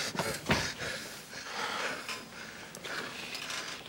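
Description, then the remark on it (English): Labored, wheezing breaths of a patient being wheeled on a hospital trolley, a strained airy hiss rising and falling with each uneven inhale and exhale, with no talking. “I'm having trouble breathing.”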